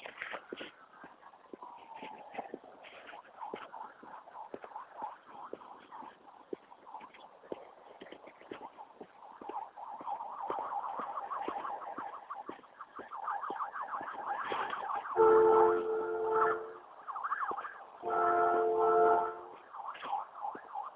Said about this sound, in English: Wow. Sirens, horns. Doesn't sound good. Doesn't sound good at all.